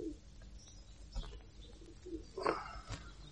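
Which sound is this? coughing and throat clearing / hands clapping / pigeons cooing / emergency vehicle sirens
pigeons cooing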